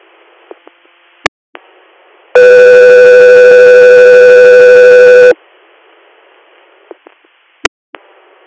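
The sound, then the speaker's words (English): A loud, steady electronic dispatch alert tone for Guthrie Air sounds for about three seconds over a radio channel, framed by faint static hiss and a few sharp clicks before and after. “Guthrie Air, standby for tones.”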